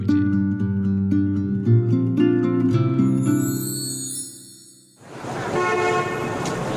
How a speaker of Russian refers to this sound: Рабочий район города Нижний Новгород. Серые дома в предрассветной дымке. Множество машин, переполненные автобусы, трамваи развозят горожан на работу и в школу. Город просыпается к жизни.